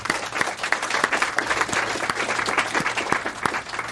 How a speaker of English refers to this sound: So thank you very much for your efforts at providing such a space. A round of applause.